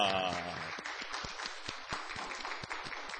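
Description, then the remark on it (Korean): A crowd applauds steadily for a few seconds, many hands clapping together in a dense, crackling wash with a brief tonal sound at the very start, as a church audience welcomes a returning member during a worship service. “박수로 환영하겠습니다.”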